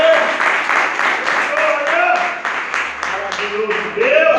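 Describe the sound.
A crowd claps and applauds steadily in praise of the Lord, with rhythmic bursts of clapping blending into a continuous wash, while voices call out over it.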